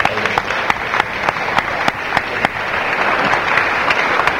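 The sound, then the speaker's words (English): An audience applauds Bhuvanath Prabhu at the end of his talk, steadily, a dense wash of many hands clapping with a few sharper individual claps standing out, holding fairly even in loudness throughout. “Round of applause for the Bhuvanath Prabhu, please.”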